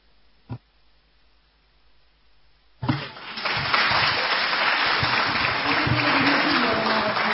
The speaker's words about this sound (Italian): Silenzio in aula, parola sì, al sindaco, prego. Grazie Presidente, è facile prendere gli applausi in questo modo